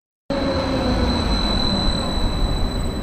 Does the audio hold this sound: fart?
no